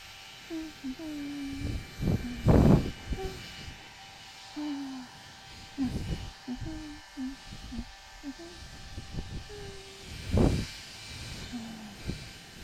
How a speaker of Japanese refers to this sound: これでじゃ、ドライヤーかけていきますね。